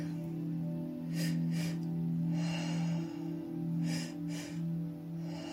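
Audible breathing in a steady cycle during a guided breathing exercise: two quick, sharp inhales in a row, the first pushing the belly out and the second filling the upper lungs and chest, followed by one longer exhale, repeated twice over a soft sustained musical drone. No one speaks.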